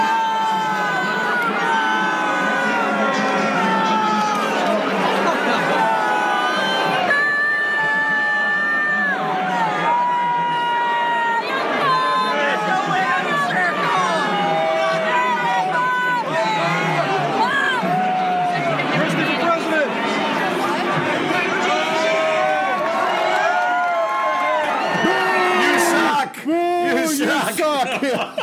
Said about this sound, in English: This is the sound of the crowd when he was introduced at the Haskell Invitational horse race in New Jersey, Randall. This is an actual recording from a phone at the site. Here it is.